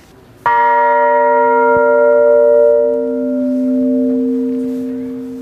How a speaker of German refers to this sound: Also das Spannende ist, dass der Glockenklang an sich aus verschiedenen Obertönen besteht. Hier zum Beispiel die Glocke hat den Ton B.